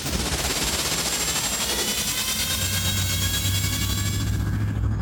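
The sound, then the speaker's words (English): A vehicle engine runs steadily with a dense, rough, throbbing drone and faint whining tones, loud throughout, with a deeper low hum joining partway through. No one speaks. “She sounds smooth, Luke. Yeah, I worked on her all day yesterday.”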